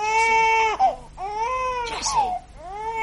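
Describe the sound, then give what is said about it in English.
A baby cries in three long, wavering wails, each one rising and then falling in a strained, high pitch, with brief breaths between them. The crying is loud and steady throughout. “Jessie, the baby's crying.”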